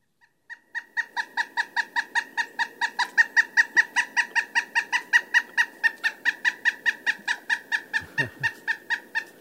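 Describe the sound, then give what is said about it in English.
A pileated woodpecker calls in a long, rapid series of loud, ringing notes, steady in rhythm, with a brief low thump near the end and no talking. “Yeah, now the call of the pileated woodpecker is somewhat reminiscent of the flicker, a smaller, somewhat close relative, another woodpecker.”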